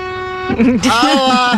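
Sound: car horn honking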